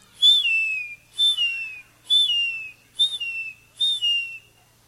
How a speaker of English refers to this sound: Have a lot of seagulls around our coastal areas.